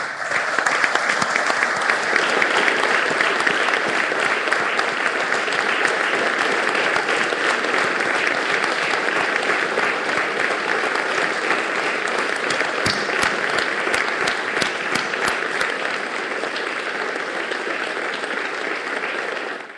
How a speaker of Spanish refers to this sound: quiero que le demos un fuerte aplauso a Mario Meoni.